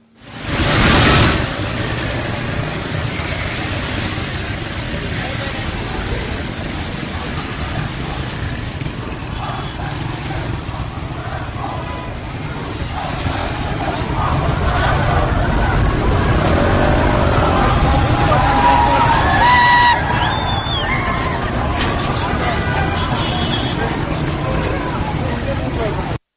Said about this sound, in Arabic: وتظهر مقاطع الفيديو أو تظهر مقاطع الفيديو المنشورة على شبكات التواصل الاجتماعي أن هناك العديد من السيارات ترش المياه على المحتجين بين مساحة انقلاب يعني بين قوسين الثورة وشارع ولي عصر يعني.